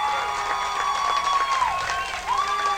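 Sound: football stadium crowd cheering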